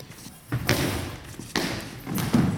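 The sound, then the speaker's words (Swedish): A goalball shot by Anna Kristensen, hard and spinning, bounces over the outstretched German defenders on the fine wooden floor of the club's own arena: three heavy thumps spaced about a second apart, each ringing out briefly against a steady, noisy arena background. “Studsande, hårt skruvat, som studsar över de utsträckta tyska försvarsspelarna.”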